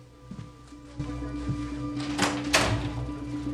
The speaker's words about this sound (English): He stands up and opens the door for her.